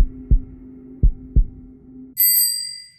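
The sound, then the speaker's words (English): A slow heartbeat of a floating heart, three deep, muffled thuds, soft and drum-like, over a low steady hum. A bright bicycle bell then rings out and lingers to the end as a bicycle flies through the air and zooms past. “I closed my eyes, listening to Charlotte's floating heart beat like a far-flung drum”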